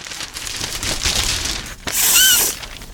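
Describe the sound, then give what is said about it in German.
Crinkly gift wrapping paper rustles and crackles for about three seconds in a paper and stationery section, with a brief pause near the middle and then a louder, brighter burst of crumpling. No one speaks. “Oh, das ist aber schönes Geschenkpapier.”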